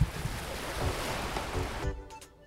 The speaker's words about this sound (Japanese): あーどうだろう、水触ってあ、なんか波に近づいていってます